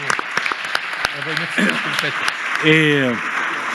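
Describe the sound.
Audience applause, a dense steady patter of many hands clapping, with a few voices briefly calling out over it.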